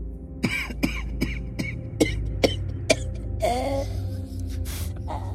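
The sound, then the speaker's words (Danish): A string of raspy, gasping coughs comes in quick bursts, followed by a rougher throat-clearing rasp near the end, fairly loud over a low steady hum. “Jeg har en helbredende drik, hvis du til hosten.”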